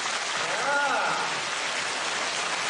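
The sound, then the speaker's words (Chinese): A recorded audience, urged to clap louder as if they were 1000 people, applauds loudly and steadily, dense overlapping claps forming an even wash of noise that holds for the full few seconds, with a brief faint voice audible early on. “啊，台长把你们当成1000人在鼓掌的掌声，再同学我响一点要听。”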